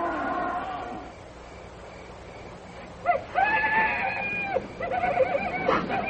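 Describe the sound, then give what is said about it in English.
Shrill, wavering wild animal screams ring out in a couple of drawn-out bursts, loud, with a rougher, lower cry at the start and a steady background hum; a recording of wild animal growling and screaming from a record, played on a battery-powered player. “That's some great wild animal sounds. Growling and screaming and that stuff.”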